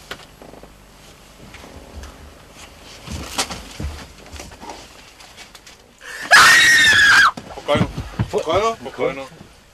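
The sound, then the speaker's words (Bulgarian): A woman lets out a loud, shrill, piercing scream lasting over a second, with people talking before and after it, in a comedy film shot for BNT in 1990. “Пищи в една комедия, която снимах като режисьор в БНТ 1990 година.”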